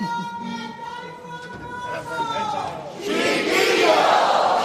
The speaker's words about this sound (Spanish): Ese grito desde Gallinero de ánimo para esta chirigota.